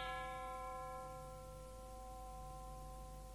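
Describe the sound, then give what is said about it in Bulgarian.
A single deep toll of the bell of Zollern castle rings out and hums slowly away over several seconds, heard alone with no voices, tolling for the death of Countess Hedwig von Zollern. “А, това не е ли камбаната на замъка? Да, тя е. И как тъжно бие.”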